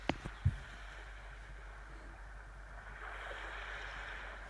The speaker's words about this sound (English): And then you can listen to the sea.